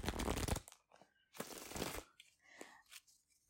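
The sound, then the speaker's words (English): A deck of playing cards is shuffled: two dense, rapid riffling bursts of crisp fluttering, separated by short pauses and followed by a few softer taps and shuffles as the deck is squared up. “Get them nice and shuffled and mixed up.”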